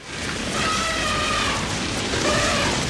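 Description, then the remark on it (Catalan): A herd of elephants running, heard as a dense, steady rumbling roar of overlapping thuds and hiss that fills the whole three seconds at a fairly loud, even level, with no voices. “Això és un elefant, corrent, no? Ah, són molts elefants.”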